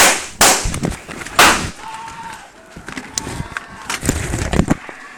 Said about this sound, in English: A live stream of a video game tournament has captured the moment a gunman opened fire in the latest of a long line of mass shootings in the United States. Amid a series of gunshots, people can be heard screaming before the footage cuts off.